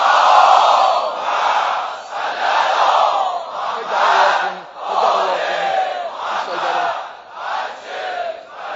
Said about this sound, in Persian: به عشق آقا امام زمان صلوات بلند بفرستیم.